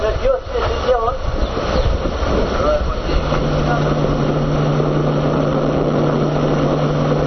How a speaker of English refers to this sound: We've just cleared Coman Dam, making our way up the Fierce River by ferry. The wind is quite strong here, and cold rain falling.